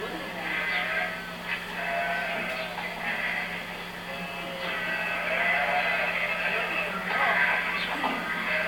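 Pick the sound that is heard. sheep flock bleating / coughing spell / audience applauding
sheep flock bleating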